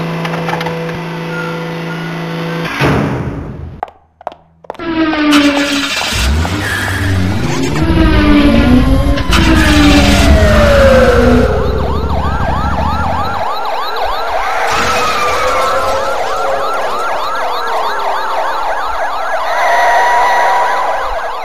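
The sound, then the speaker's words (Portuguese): Busy city traffic with a wailing siren rising and falling over engine rumble, plus clattering and crashing noises, loud and chaotic throughout with no voices. “Será que em todas as cidades o trânsito é assim?”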